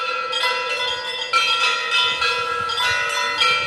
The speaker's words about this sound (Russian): а для христиан при храме святителя Николая Чудотворца открылась звонница из 7 колоколов.